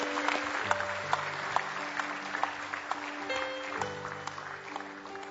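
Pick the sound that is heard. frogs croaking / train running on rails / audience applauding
audience applauding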